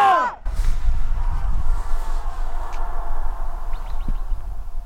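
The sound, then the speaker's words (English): A single loud shout of "Yampa" rings out at the start, then trails off into a lingering wash of echo over steady low rushing water in Yampa Canyon, where the Yampa River meets the Green River. “Staying silent for, let's say, a good 10 seconds, so you can count, try to count how many echoes you can hear, okay?”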